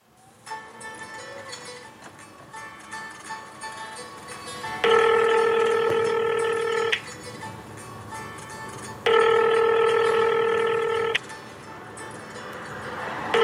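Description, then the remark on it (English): A phone line rings out with two long, steady ring tones separated by a few seconds of quiet hum, loud, with nobody answering. “Pick up your phone.”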